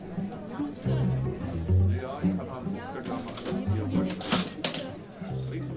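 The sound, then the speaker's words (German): An old mechanical cash register at the Theater Kuckucksheim in Heppstedt, used to sell admission tickets, clacks and clunks, with a couple of sharp, bright strikes near the end, while people chatter in the background. “Da ist ja eine richtige alte Kasse.”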